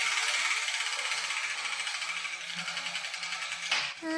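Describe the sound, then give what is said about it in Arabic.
A spinning wheel of Arabic letters, set turning to choose a letter, rattles with a rapid, steady clicking that gradually slows, ending in a brief clatter and a short high chime. “هيا هيا ابدأي بتحريك الدولاب.”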